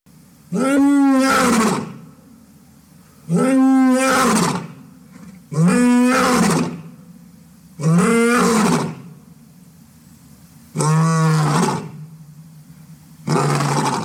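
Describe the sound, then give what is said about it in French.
A lion roars six times in a steady rhythm, each loud, harmonic-rich bellow lasting over a second, separated by brief pauses. The roars are powerful, with no talking. “Il s'agissait du cri du roi des animaux, le lion.”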